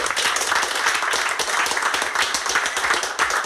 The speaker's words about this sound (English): Yeah, a round of applause, I think.